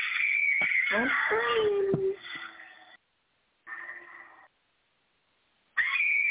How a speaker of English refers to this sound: Oh, that hurt my ears. Oh, she's screaming for a while. Stop it.